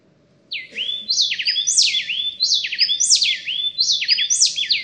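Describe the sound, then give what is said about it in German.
A male and female happy wren sing a duet, rapid clear whistled phrases repeating in a seamless rolling rhythm, loud, over faint low background hum with no talking. “So, und jetzt im Duett.”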